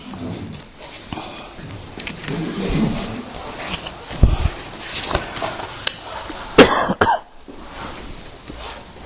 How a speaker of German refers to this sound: Ich werde ab und zu husten, aber es ist nicht so schlimm. Tut mir leid, muss ich.